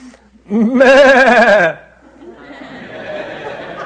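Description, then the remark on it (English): A loud, wavering group bleat, people imitating sheep together for about a second, followed by a softer murmur of crowd noise and laughter. “Oh, I love being in a room full of sheep.”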